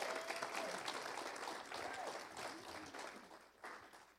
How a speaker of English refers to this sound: Y'all give him a hand clap as he comes up.